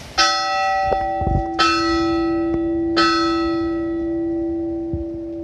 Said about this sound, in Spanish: La campana, güey. Hemos llegado a la cima.